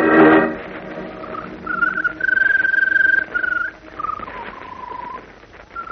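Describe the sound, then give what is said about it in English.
The Scarlet Bird sings in a Superman radio drama, with long, sustained whistled notes that rise and dip slightly in pitch, following a brief loud burst at the start. No one speaks. “You know, it's a strange thing, but she seems to get stronger whenever that bird sings.”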